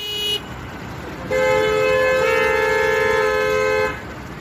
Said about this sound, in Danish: Det er lyden af københavnske biler, der ikke kan flytte sig ud af stedet, fordi vejen er spærret af unge i orange veste.